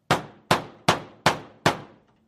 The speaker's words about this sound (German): Also nahm ich eines Tages all meinen Mut zusammen und klopfte an der Schlosstür.